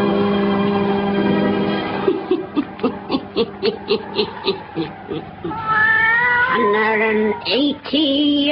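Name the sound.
black cat meowing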